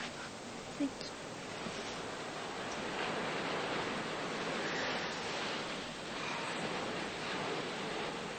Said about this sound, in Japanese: 夜の海って素敵ね。